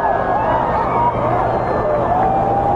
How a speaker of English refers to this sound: So it's like dawn right now. What a strange feeling this is. And the crowd is reacting.